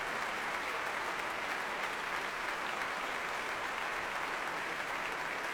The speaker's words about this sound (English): Back to the stage he comes again to take another bow. Very enthusiastic applause from the players of the BBC Symphony Orchestra.